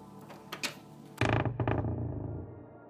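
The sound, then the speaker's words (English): A door creaks loudly as it is swung open, a long groaning squeal with a couple of sharper squeaks after a brief quieter lead-in, with no talking. “I leave it another couple of beats before I swing the door open, just to be safe.”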